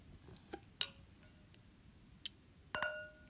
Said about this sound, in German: also vielleicht hört man es jetzt, wir sind wieder am Trinken. Warte, Ching Ching. Das wird jetzt richtig beschissen klingen, ne?